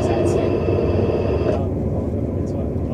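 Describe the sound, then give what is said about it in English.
A constant, loud low rumble inside a moving Midland Main Line train carriage at Leicester, in service for London St Pancras, with a faint high-pitched whine running steadily over it for the whole stretch. “Good morning, welcome to passenger on the train at Leicester.”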